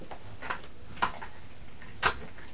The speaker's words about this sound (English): Did you knock your tower over? Hey? You did, didn't you?